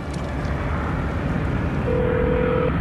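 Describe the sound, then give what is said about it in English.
A steady, loud roar of a jet plane descending overhead as it glides down to land, a broad rumbling wash with a faint whine emerging near the end, no voices present. “A jet plane glides down to land.”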